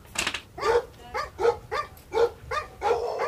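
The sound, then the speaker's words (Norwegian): Repeated deep barks from three large dogs, about six in a steady rhythmic series, loud, with no talking over them. “Vi skvetter forbi de tre svære bikkjene og lander tilbake I bilen.”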